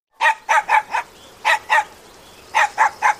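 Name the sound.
dog barking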